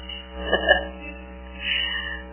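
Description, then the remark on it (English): A cat meows twice inside a building, one cry early and a softer one near the end, over a steady low hum with no talking. “The cat's in the building again.”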